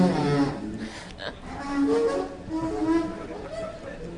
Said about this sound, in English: And like any good music critic, Chris started classifying the different styles of metro escalator. So here at Farragut North, the escalators might sound like whales mating or something like that.